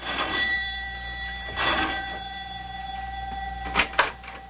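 A doorbell at the professor's house is pressed and rings twice in short bursts with a gap between, then a couple of sharp clicks or knocks follow near the end. No one speaks.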